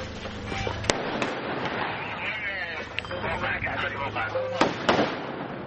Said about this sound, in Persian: تبادل آتش میان نیروهای عراقی و شبه نظامیان گروه حکومت اسلامی موسوم به داعش که در یکی از خانه‌ها در غرب موصل پنهان شده اند.